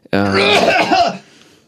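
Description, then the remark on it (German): A single loud cough past a microphone, harsh and throaty with a strong voiced edge, lasting about a second before trailing off into quiet. “Und naja, der Heimatdichter Nummer 1, da lässt sich natürlich nicht vermeiden, dass man einmal Goethe zumindest am Mikrofon vorbei hustet.”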